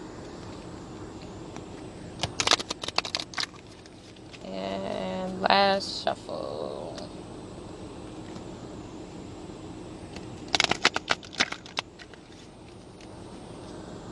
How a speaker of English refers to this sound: I'm going to shuffle this two more times. Unless Spirit says otherwise.